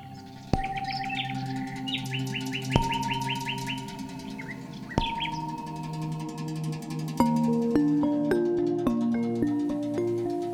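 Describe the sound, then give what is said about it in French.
Birds chirp in a tropical forest in quick repeated bursts early on, set over sustained tonal notes and a soft stepping melody that grows fuller toward the end; no one speaks. “Dans la forêt du paresseux, les oiseaux piaillent.”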